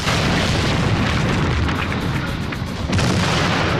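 A missile explosion slams into the leading truck, a loud booming blast that rolls into a sustained, crackling roar, dips briefly, then surges again near the end. No voices are heard.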